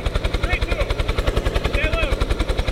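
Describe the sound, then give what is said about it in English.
A Kentucky State Police helicopter hovers during a rescue of four college students, its rotor blades beating out a loud, rapid, steady thumping chop throughout, with faint muffled voices briefly rising beneath the engine noise. “Four college students were rescued by a Kentucky State Police helicopter Monday.”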